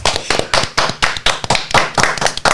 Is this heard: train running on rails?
no